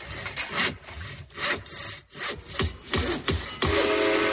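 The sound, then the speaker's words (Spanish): A hand saw cuts through wood in steady back-and-forth strokes, each rasping pass rising and falling in a regular rhythm, fairly loud, with no voices. “Una sierra.”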